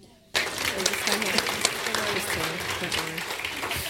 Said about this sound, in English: I've just got to say the official declaration now, so you could have another round of applause then as well.